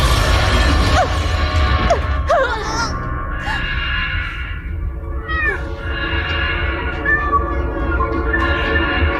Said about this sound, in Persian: شاید این قدرت جدید داره، بعد این گربه مسخره پیدا شد.